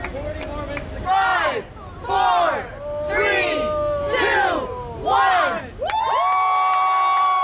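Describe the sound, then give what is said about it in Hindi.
A crowd chants a countdown in five loud, evenly spaced bursts of many voices in unison, marking a new world record by a man from Canada for the longest time with honeybees sitting on his body, then breaks into sustained cheering and high-pitched whoops. “ये आवाजें हैं उस काउंटडाउन की जिसके बाद कनाडा से ताल्लुक रखने वाले”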